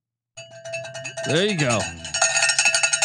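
A bell is rung for Mississippi State, clanging rapidly and continuously, a bright metallic ringing that keeps going, growing busier and louder toward the end, with a brief voice sweeping up and down partway through.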